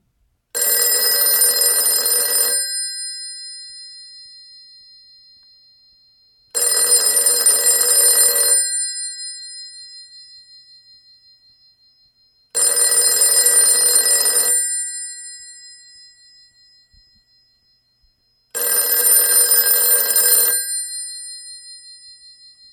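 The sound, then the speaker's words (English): A dial telephone's bell rings loudly, four long metallic rings about two seconds each, evenly spaced with pauses between and a brief fading shimmer after each ring, with no talking. “And now, if I'm adept enough with my one free hand, so you can hear this phone ring.”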